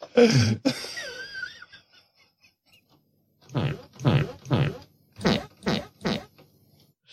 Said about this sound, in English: Sometime around 2 a.m., I couldn't sleep and I was feeling rather silly, so I put some of Rudy Giuliani's farts into a sampler, and this is what happened.